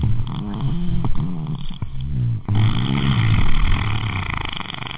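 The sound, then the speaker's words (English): A vaginal fart: a low, buzzy, sputtering rasp with a wavering pitch, fairly loud and drawn out over several seconds, with a brief break partway through and no talking. “That's a vagina fart, dude.”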